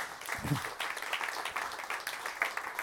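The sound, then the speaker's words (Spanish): An audience breaks into steady applause, many hands clapping in a dense, crackling wash that holds at a fairly even level for a few seconds, with a faint voice briefly audible underneath. “Sí, si queréis aplaudir podéis.”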